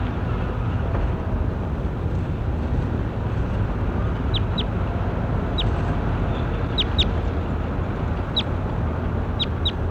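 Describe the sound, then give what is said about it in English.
A bird, identified as bird 27, calls with short, sharp, high chirps, often in quick pairs, repeating through the second half over a steady, loud rumbling background noise. “Start recording bird 27. That was 27 really loud.”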